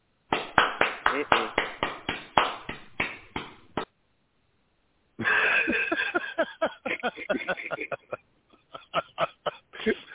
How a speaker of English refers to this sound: Hey, thank you to the one applause in the audience.